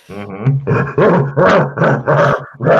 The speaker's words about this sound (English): Is that your dog going crazy in the background?